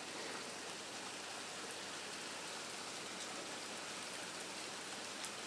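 Heavy summer rain pours down steadily, dripping through trees, a dense, even hiss of countless drops with fine pattering detail throughout, constant with no pauses and no voices.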